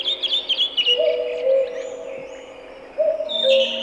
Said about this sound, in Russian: Летает кукушка, о родном батюшке, о милой сестре тоскует, о своем несчастье кукует.